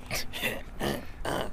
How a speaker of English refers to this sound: That little chihuahua's coughing.